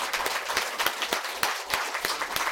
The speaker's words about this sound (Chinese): 我们把最大的掌声归给我们的神。